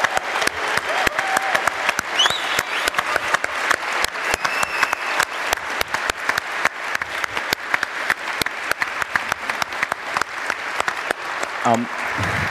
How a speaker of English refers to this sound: Big applause for the cardio team, because it's awesome. Yeah. It's just awesome.